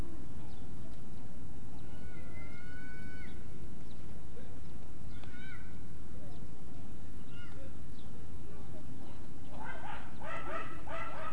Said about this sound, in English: Uh-oh, sounds like some dogs fighting, huh?